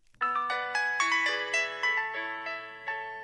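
cell phone ringing

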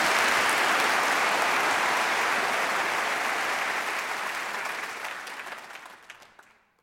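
round of applause

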